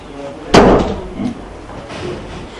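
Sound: door being closed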